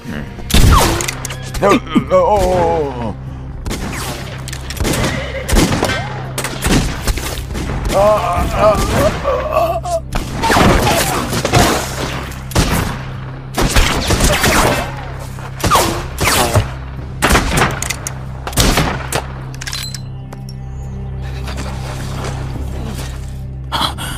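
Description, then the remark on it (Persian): Loud bursts of gunfire crack out again and again at an irregular pace over a low rumble, with gasps and shouting voices mixed in between the shots. “از اونجا بیا بیرون. فقط شلیک نکنین.”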